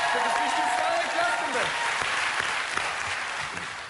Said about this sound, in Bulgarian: Абсолютно заслужени аплодисменти